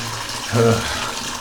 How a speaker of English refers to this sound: Let me pour some tea into the cup here.